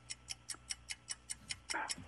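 A countdown clock timing a 10-second answer ticks steadily, about five crisp ticks per second in an even rhythm, moderately loud, with a brief low swell of another sound near the end.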